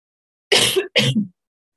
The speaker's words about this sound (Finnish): Anteeksi, nyt alkaa yskittämään.